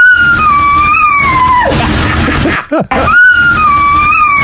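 A dog sings out a sustained, wavering melodic howl like a musical riff, pitch gliding through a short phrase, breaking off briefly before repeating the same tuneful line; loud, with no one talking.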